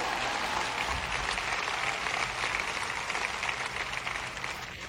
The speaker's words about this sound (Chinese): 这边有一个人在鼓掌，用力一点。